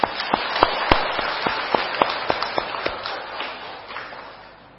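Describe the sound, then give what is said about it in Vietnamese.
An audience at a Buddhist talk on the Lotus Sutra applauds steadily for a few seconds, a dense patter of many hands with a few sharper individual claps standing out, tapering off toward the end. “Cho tràng pháo tay.”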